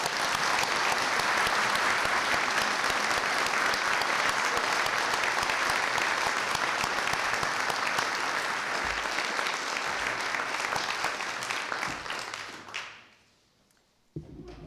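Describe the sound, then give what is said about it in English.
Sustained applause from a large audience congratulating distinguished faculty members for an award, dense and steady for about twelve seconds before fading out quickly, leaving near silence and a faint tap at the end. “Let's give them all another round of applause.”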